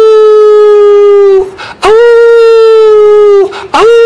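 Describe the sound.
A person's voice loudly imitates a dog howling, with two long, steady wailing notes, each ending in a short break before the next begins. There is no other sound.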